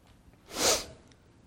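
A single sneeze, a brief breathy burst that swells and fades within about half a second, heard alone against a quiet background at moderate distance.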